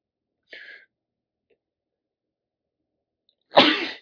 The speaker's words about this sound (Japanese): これどうしよう。15分の大半が僕のくしゃみですよ。